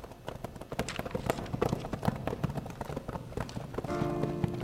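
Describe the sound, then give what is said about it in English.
Several horses clip-clop along a moonlit street at a steady walk, coming up to halt at the corner of a saloon, their hoofbeats overlapping in an uneven rhythm that grows a little louder, as if approaching, with a faint tonal sound near the end. “The arriving horses came up into the moonlit street and halted at the corner of the saloon.”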